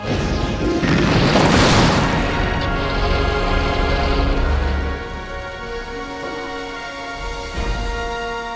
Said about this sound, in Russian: Удар молнии!